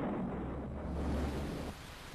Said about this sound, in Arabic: بدأ المطر يهطل في الساعة 3 عصرا. سمعنا الرعد والبرق على مسافة بعيدة.